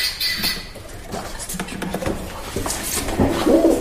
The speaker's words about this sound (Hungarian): Galamb.